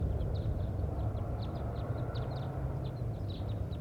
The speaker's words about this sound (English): And wild birds are flying over right now. Stop. So recording, we had a flock fly over.